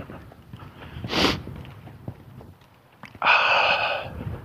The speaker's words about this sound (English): Sniff, snort.